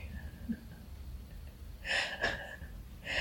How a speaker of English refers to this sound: First of all, your dad is snoring like crazy.